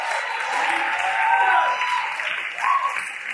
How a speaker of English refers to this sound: give Jesus a great hand clap of praise this morning.